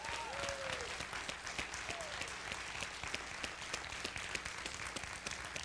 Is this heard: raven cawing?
no